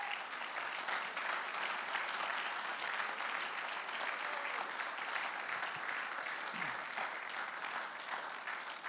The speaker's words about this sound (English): And I think it would be appropriate one more time to give our first responders a hand clap.